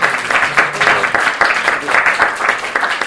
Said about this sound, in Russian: Вот, и теперь я думаю, что мы можем еще раз поблагодарить уже аплодисментами нашего визитника.